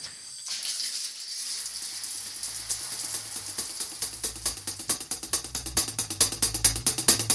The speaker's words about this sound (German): Und dann ab unter die Dusche. Weil sonst komme ich nicht in die Puschen. Außerdem, Dusche am Morgen vertreibt Kummer und Sorgen.